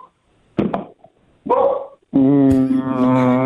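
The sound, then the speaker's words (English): A caller's dog in Richmond barks: two short, sharp barks, then a longer drawn-out, whining bark that holds its pitch. No voices, just the dog. “Maybe your dog knows. Ask him.”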